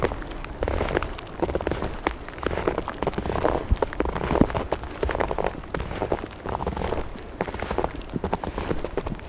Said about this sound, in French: Les flocons de neige se sont rassemblés en légère pluie fine.